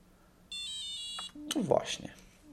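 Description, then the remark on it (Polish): A short run of high, thin electronic beeps from a braille display powering off after its power button is held for 3 seconds, stepping downward in pitch, followed right away by a person starting to speak. “Potem teraz był taki schodzący nieco w dół, dźwięki schodziły w dół, czyli monitor się wyłączył.”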